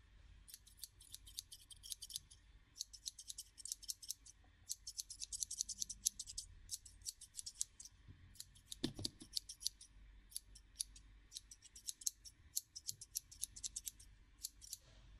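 Scissors snip rapidly and close up in quick bursts of crisp metallic clicks, pausing briefly between runs, as during a haircut, with a soft low bump partway through and no talking.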